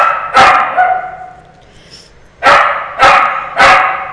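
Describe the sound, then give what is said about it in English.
A dog barks loudly, a sharp bark followed by a brief pause, then three more barks in a quick, steady rhythm. “But for your listening pleasure, I'm just letting him bark.”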